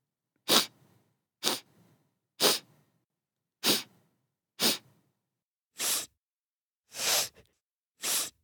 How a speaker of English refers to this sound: Yes, I'm sniffing with my nose. Let's do it together. Let's sniff with our noses and make this sound.